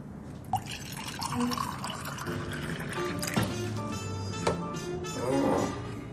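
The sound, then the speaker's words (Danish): Red wine is poured into a glass, a steady splashing gurgle broken by a few sharp clinks and drips, its tone rising slightly as the glass fills over several seconds. “Skal lige have lidt at drikke her.”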